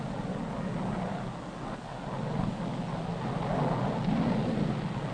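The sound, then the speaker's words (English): A deep, rolling explosive rumble fills the whole stretch, a steady low roar like a blast's aftermath that swells slightly toward the end, with no voices. It is the ordinary explosive of a nuclear weapon going off in a drop test made without nuclear components, with no nuclear explosion or radioactive fallout. “Impact or shock does not cause nuclear explosion or radioactive fallout. What has exploded is the ordinary explosive, which is an essential part of nuclear weapons.”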